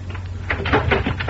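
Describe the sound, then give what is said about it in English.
Several heavy knocks pound on a wooden door in quick succession, loud, over a low steady hum; someone is hammering on a door late at night. “What do you mean by hammering on my door at this hour of the night?”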